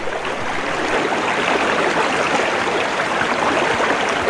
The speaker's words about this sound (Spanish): ¿Escuchan el agua?